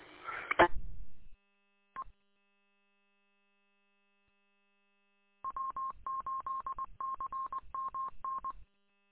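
A short burst of noise and a lone beep, then after a pause a rapid string of about a dozen touch-tone DTMF dialing beeps connecting EchoLink to a node, clear and steady, with no voices.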